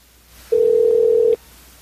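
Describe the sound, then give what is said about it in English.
A single steady electronic telephone tone, like a ringback heard on an outgoing call, sounds clearly for just under a second against a quiet background, then stops. No voices are heard. “Oh, that fucking WAP better pick up.”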